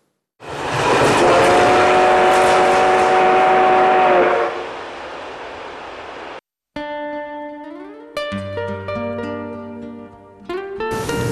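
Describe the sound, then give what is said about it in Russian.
A loud, steady rumble of a train rolling into Yekaterinburg railway station, with a high metallic squeal held for a few seconds before fading, then a sudden cut to layered electronic tones and chords. “Екатеринбургский вокзал, железнодорожные ворота города.”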